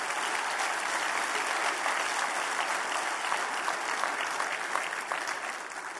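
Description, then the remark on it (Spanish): A crowd applauds steadily and loudly throughout, a dense wash of many hands clapping with no pauses, tapering slightly toward the end, giving an applause to God. “Dale un aplauso a Dios, hermano.”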